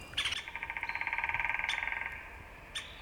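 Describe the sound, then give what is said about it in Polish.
A great spotted woodpecker gives a rapid, steady chattering rattle lasting about two seconds, clear, followed by a single short sharp note. No one speaks. “Na pewno był to dzięcioł pstry.”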